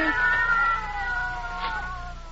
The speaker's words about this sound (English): What's that? Cats. Oh, I'll break that up.